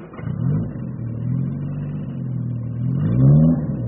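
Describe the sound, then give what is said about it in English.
A new car's engine revs, its low harmonic drone rising in pitch toward the end as the vehicle pulls in. Steady, loud and continuous, with no voices over it. “Anyway, the good thing is he'll take us for a drive in his new car.”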